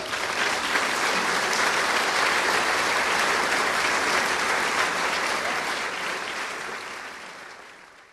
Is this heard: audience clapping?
yes